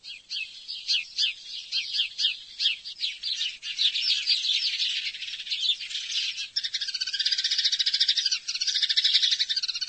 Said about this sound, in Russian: Вы узнали по щебету воробья? А ведь так можно опознать птицу, которая залетела к вам в сад.